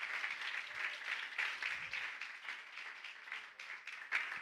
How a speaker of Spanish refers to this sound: Le podemos dar un aplauso a Dios que mira nuestro corazón.